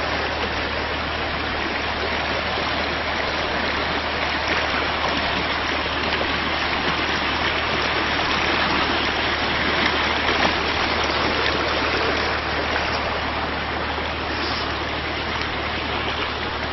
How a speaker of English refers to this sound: See the beautiful creek.